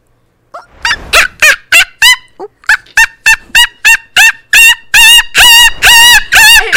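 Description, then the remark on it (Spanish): A person imitates a monkey call with a rapid string of short hooting bursts that speed up and climb in pitch and loudness, ending in shrill, strained cries. “Me he acordado de un mono.”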